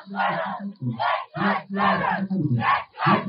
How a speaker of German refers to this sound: auf einmal kamen dann die ganzen Menschen, also vielleicht kann man einfach auch noch mal reinschauen in die Demo. Die Leute strömen hier rein und skandieren.